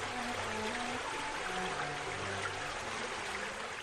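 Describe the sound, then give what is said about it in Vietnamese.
A stream in a forest babbles and gurgles among rocks in a steady, continuous rush of water, fairly loud, with no voices present. “Trong hốc đá, ngọn suối chảy nghe réo rắt như tiếng đàn reo vui.”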